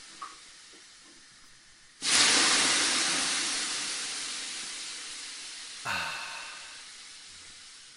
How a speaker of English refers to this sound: But I'm sure that concern is nothing but can't be steamed away in one of 4 different temperature steam rooms. Choose from hot, very hot, intensively hot, and illegal inside the EU.